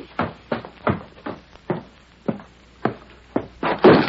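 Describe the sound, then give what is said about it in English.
A door opens as the Lone Ranger, having dismounted from his horse Silver, walks into the Killgrew gang's cabin in the morning: a steady run of about a dozen heavy wooden thuds and footfalls, fairly loud, with no voices. “He reined up the door. Ready, Silver? Dismounted and walked in.”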